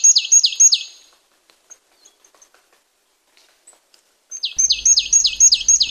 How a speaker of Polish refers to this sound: Ona taka zadziorna jest. Tak, pełna agresja. Sikorki są dosyć agresywnymi ptakami. Nie wiem, czy wie pani o tym, że sikorki bogatki, im mają większy krawat, tym więcej testosteronu w sobie.